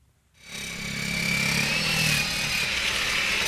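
Construction machinery at a construction training yard in Marienfelde, Berlin, where building apprentices shovel, measure and work with hammer drills, starts up after a brief silence and runs as a steady, loud mechanical whine and rumble, with a high tonal edge over a low drone and no voices.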